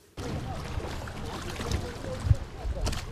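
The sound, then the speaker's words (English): Water laps and sloshes steadily at the shoreline of Lake Victoria, with soft splashes and a low rumble of fishing boats cruising to and fro, mostly traditional sailing boats and paddled canoes, a few with modern outboard motors, under a broad wash of outdoor ambience. “Waves are gently lapping up onto the shores of Lake Victoria. Fishing boats cruise to and fro.”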